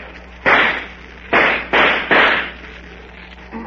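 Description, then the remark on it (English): Four sharp shots from a .45 revolver ring out, each a loud crack with a short decaying tail, unevenly spaced with the last three in quicker succession, followed by quiet with no talking. “That Jim Hawkins is a fast man with a .45 and a good shot, too.”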